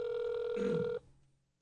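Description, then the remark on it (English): A phone's ringback tone plays through a cell phone's speakerphone during an outgoing call, one steady electronic burst lasting about a second before cutting off, with a faint low murmur briefly underneath. “I've got you on the speakerphone on my cell.”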